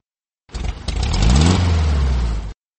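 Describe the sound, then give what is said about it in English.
A car engine revs up loudly, its pitch climbing and then holding steady for about two seconds before cutting off abruptly. “Here is my car.”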